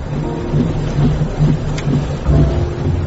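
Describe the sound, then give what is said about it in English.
Heavy rain pours down in a steady, dense hiss while low thunder rumbles underneath, rolling and swelling throughout with no voices present. “I kept peering into the rain.”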